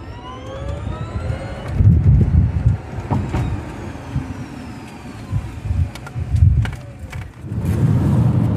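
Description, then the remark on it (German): A Kona car driving along a road on the way to Speyer, with a steady low rumble of engine and tire noise that swells and fades, plus occasional passing whooshes and faint higher whines; no one speaks. “Wir sind auf dem Weg nach Speyer und während ich noch mit dem Stefan gesprochen habe, saß der Simon schon im Auto”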